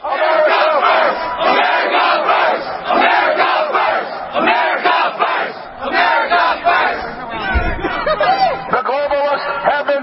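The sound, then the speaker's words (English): A large crowd in front of the state capitol building in Atlanta, Georgia roars and chants steadily for the full ten seconds, a loud, dense wall of overlapping shouting voices with rhythmic surges, and no single voice stands out. “But let's go live to Alex Jones there in front of the state capitol building in Atlanta with a large crowd behind him.”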